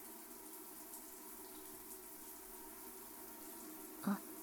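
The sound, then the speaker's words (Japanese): Water runs steadily in a soft, continuous stream, rinsing soap foam off, with a brief louder splash near the end. No one speaks. “もうほとんど泡は取れたかな。もう少しかな。”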